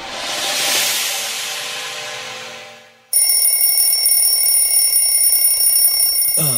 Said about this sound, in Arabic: خلاص يا عم المنبه كفاية، صحينا هو.